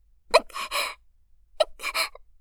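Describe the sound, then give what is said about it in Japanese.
Two hiccups about a second apart, each a sudden voiced catch of breath followed by a short, airy exhale, fairly loud against silence with no talking. “しゃっくりが出ちゃってごめんなさい。”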